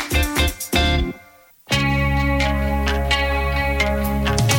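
A pop song plays on the radio during the late-night show El trasnoche de la radio, at steady volume, with rhythmic chords and a sustained bass. The music dips and drops out for a moment, then returns full and continuous. No one talks.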